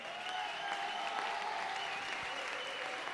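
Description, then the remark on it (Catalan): Steady audience applause for Amparo Recasens and Joan Domingo Martínez, members of the Seguici Popular de Tarragona, as they go up onto the stage; a dense, even patter of many hands clapping at constant loudness, with no voices rising above it. “També molts aplaudiments per Amparo Recasens i Joan Domingo Martínez, que pugen a l'entarimat.”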